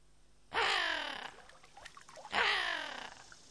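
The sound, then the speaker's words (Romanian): Two loud, harsh raven caws ring out, each drawn out for about a second with a short gap between them and no talking. “Pe când stătea el așa, 3 corbi bătrâni veniră în zbor și se așezară pe crengile copacului.”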